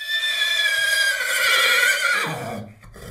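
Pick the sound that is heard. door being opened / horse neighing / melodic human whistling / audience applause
horse neighing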